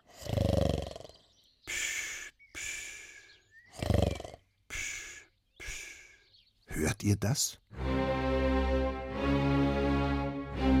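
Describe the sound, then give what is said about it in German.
Loud, rasping snores from a man sleeping fully clothed on a couch in Vienna at sunrise, wrapped in a wool blanket, come in a rhythmic run of rumbling breaths in three-quarter waltz time, ending in a long, drawn-out growling snore. A voice briefly speaks partway through. “Der Mann auf der Couch schnarcht nicht wie andere Menschen.”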